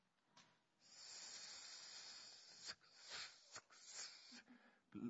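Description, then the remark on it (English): A voice imitates a snake's hiss: a long, airy sustained hiss followed by several shorter breathy bursts, fairly loud with no words spoken. “And a snake?”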